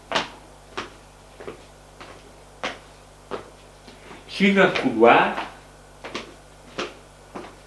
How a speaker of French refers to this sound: Elle ouvre une porte.